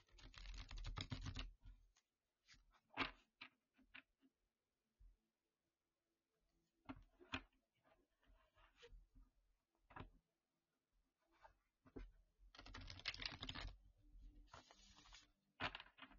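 A deck of cards being shuffled: dense, papery riffling bursts at the start and again near the end, with scattered light taps and clicks in between and no voices.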